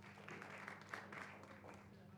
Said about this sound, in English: Let's give her a hand and clap.